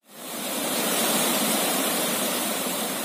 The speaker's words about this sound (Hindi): लहरों की ये आवाज तब की है जब तेज बहाव के साथ नेपाल से आ रहा पानी कोसी बैराज पास कर बिहार में प्रवेश कर रहा था। बैराज पर खड़े होकर जहां तक नजर जाती सैलाब ही सैलाब दिखता।